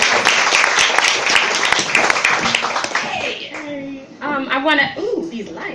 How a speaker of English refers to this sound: Please give a round of applause for the lady that's coming up here, part of this wonderful event.